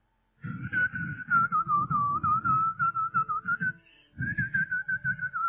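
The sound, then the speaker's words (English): Someone whistles a sustained, gently wavering tune, pausing briefly near the end before resuming, over a steady low rhythmic thumping. “He used to whistle. He was just whistling.”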